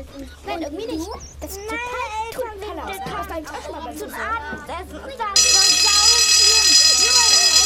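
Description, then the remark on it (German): Children chatter and call out over each other, then a loud electric school bell starts ringing, a steady harsh metallic clang that continues unbroken to the end over the voices. “Ruhe, es hat geklingelt.”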